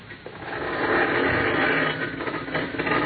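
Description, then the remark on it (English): A garage door grinds open with a steady mechanical whir and rattle, loud, running continuously for a few seconds with no voices. “Go ahead, start the door up.”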